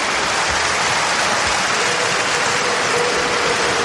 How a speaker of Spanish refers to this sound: El narrado por Manolo Lama, la ovación a Vinicius en el Bernabéu. Minuto 20 en el Bernabéu.